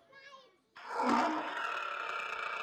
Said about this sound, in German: Ganz weit weg, das war ein bisschen außerhalb in der Wüste. Die Erwachsenen, ein Löwe. Boah, da hat ein Löwe gebrüllt in der Wüste.